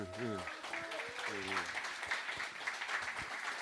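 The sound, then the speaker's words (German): An audience breaks into steady applause for the evening's moderator, dense clapping filling the room, while a voice speaks briefly over it at the start. “Jetzt würde ich mich freuen über einen Applaus für unseren Moderator heute Abend, wie immer”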